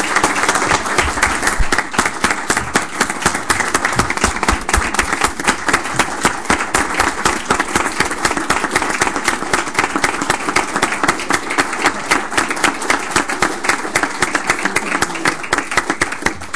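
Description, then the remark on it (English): Sustained audience applause for 13 departing supervisors, marking 109 years of service, with dense, crackling claps that hold a steady loudness for about sixteen seconds, with no talking over it. “But 109 years of service, and for all of the work that you have done, one more round of applause for those 13 supervisors who are leaving.”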